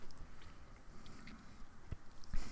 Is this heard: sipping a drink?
yes